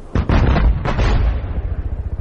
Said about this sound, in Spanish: De repente, 6 o 7 fuertes explosiones rompieron el silencio. Y al igual que un pianista pasa la mano por el teclado, de las notas agudas a las graves, en menos de un minuto se produjo el más terrible cañoneo que jamás haya escuchado.